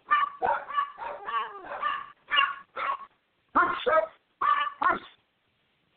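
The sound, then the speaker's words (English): Dogs barking at night in a rapid, uneven volley of about a dozen sharp, high yapping barks, some running together, followed by short pauses; a voice briefly utters a single word. “Sorry, the dogs are barking again tonight, as usual.”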